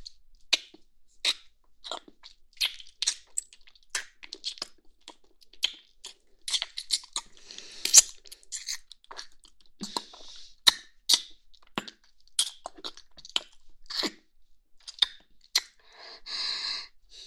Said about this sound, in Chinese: 忍不住会干嘛？当然是想亲亲我的宝贝了。来，让妈妈亲亲你。